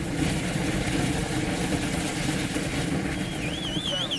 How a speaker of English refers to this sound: This mold is made of thick wood planks that ignite upon contact with the molten iron. Tall flames ripple into the night air. You can hear the sizzling. The iron is almost vaporizing the wood.